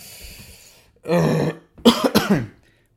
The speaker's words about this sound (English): oh my God. Sorry for coughing right down the microphone there.